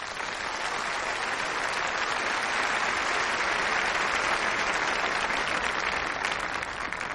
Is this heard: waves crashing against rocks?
no